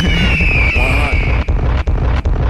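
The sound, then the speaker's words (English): Loud, continuous rumbling blasts of bombs fill the scene while a high whistle slowly falls in pitch, followed by several sharp explosive cracks in quick succession near the end, five explosions in all. “Just when you thought it couldn't be one more explosion, it's five of them.”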